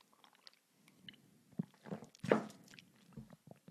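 A quick sip of water: soft, wet mouth and lip sounds with a louder gulping swallow midway, all quiet and brief with no talking.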